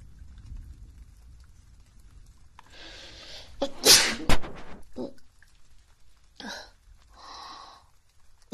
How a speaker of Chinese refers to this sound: 打了个喷嚏，我天哪！